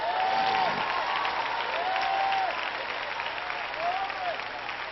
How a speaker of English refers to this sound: Clap your hands and shout somebody.